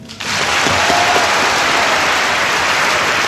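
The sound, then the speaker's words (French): An audience bursts into loud, steady applause for Malian filmmaker Souleymane Cissé after his prize speech at a festival in 1982, a dense wash of clapping that starts abruptly and holds at full strength throughout, with faint voices mixed in. “Souleymane Cissé qui nous quitte donc à l'âge de 84 ans sous les applaudissements.”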